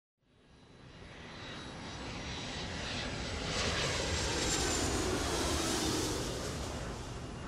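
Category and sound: vehicle, airplane engine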